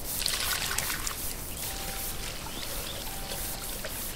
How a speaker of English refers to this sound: They ended up wet since Amel, the baby elephant, liked to splash and spray water.